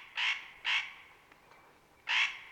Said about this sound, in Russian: Интересную загадку нам задает Ореховка. Слушайте.